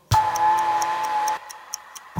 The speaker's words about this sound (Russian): Ненароком я услышал, как тикает бомба.